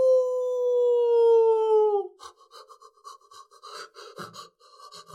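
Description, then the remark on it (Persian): A single long, wavering howl from a hungry wolf at night that slowly drops in pitch for about two seconds, followed by a rapid series of short, breathy panting or yipping bursts, clear. “یک گرگ گرسنه داشت زوزه می کشید.”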